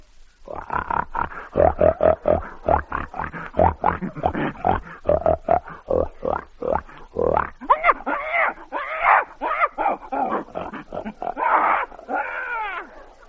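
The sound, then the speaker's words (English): A pig grunts in a fast, steady run of loud pulses for several seconds, then breaks into higher, drawn-out squeals and snorts toward the end. “A pig.”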